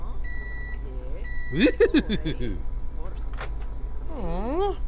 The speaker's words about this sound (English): What do you beep if you have nothing to say?